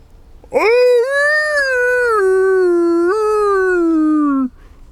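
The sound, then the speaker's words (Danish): A person in a forest east of Råbjerg Mile imitates a wolf howl very early in the morning while trying to find a wolf: one long, loud, sustained wavering cry lasting about four seconds, rising sharply at the start and slowly sliding down in pitch before cutting off. “Nu står jeg og hyler.”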